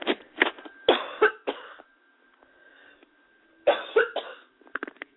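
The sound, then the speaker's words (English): Loud coughing comes in two fits: a burst of several harsh coughs, a pause with faint breathing, then another cluster of coughs followed by a few quick, softer ones. “Excuse me for coughing.”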